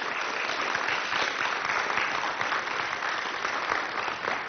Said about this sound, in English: thank you very much again to attendees, to all the folks who had tables and participated in that way, giving out outreach information, and to all of our speakers. Thank you very much. If we can just give a round of applause.